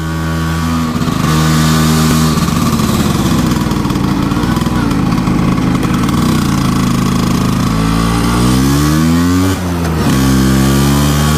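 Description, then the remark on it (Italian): A Vespa scooter engine buzzes loudly and steadily, its pitch stepping up and down as the throttle is blipped, then climbing in a longer rev near the end. No voices are heard. “Vespa ist typisch für Italien und viele Leute fahren Vespa als Hobby.”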